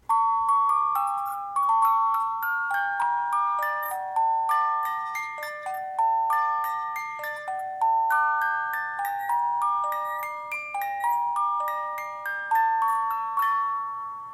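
A music box plinks out a slow, steady melody, each bright metallic note ringing and decaying one after another, close and clear with no voices.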